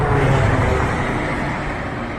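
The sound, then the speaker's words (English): A small propeller plane drones past, its engine a loud, steady rumbling hum with a low throb underneath, fading only slightly over a couple of seconds. No voices are heard. “This kind of sounds like a Cessna.”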